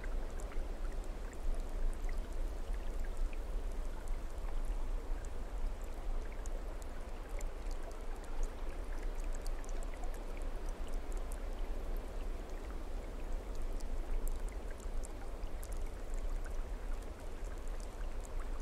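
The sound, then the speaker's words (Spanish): A mountain waterfall roars steadily, water pouring down with forceful, unbroken rushing and splashing that holds an even loudness throughout, with no voices. “Muy poco a poco dejas que el agua que cae con fuerza pura de esa montaña comience a limpiarte.”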